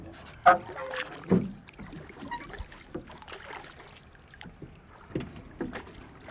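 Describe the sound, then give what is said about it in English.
A small fishing boat sits on the water, with soft wooden knocks and water sloshing against the hull, a light wind, and a faint voice somewhere in the background. “thank you very much for allowing me onto your boat.”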